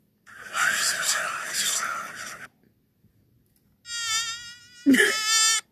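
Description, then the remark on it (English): A person imitates a buzzing fly with their voice, a steady buzz lasting about two seconds, followed after a pause by two shorter, higher-pitched buzzy bursts. “Was that a bee or a fly? It's supposed to be a fly.”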